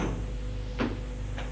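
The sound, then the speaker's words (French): A door opens in a quiet salon with half-closed shutters and old 19th-century furniture, with a short wooden clunk and scrape, followed by a fainter second knock, all over a steady low hum. “La porte est ouverte”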